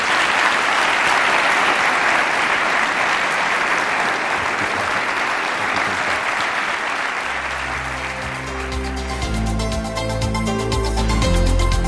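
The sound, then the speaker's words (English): An audience claps for two guests in a dense, steady wash of applause that carries on for several seconds, then music with sustained tones rises beneath it as the clapping continues. “Can we have a round of applause for both our guests?”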